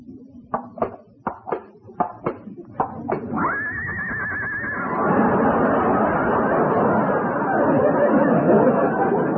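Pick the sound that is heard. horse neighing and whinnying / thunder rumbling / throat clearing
horse neighing and whinnying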